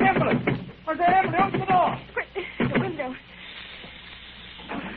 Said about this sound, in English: Listen. You hear that? It's the gas. Someone's turned on the gas. I can smell it.